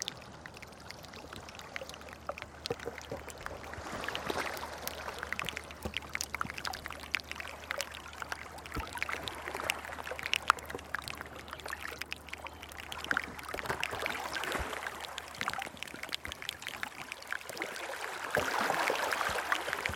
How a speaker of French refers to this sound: Regarde l'iceberg qu'elle a là. On dirait un vaisseau spatial. Mais alors, ça te dit qu'on descend sur la plage parce que sûrement il doit faire des clapotis jolis celui-là. On pourrait l'enregistrer.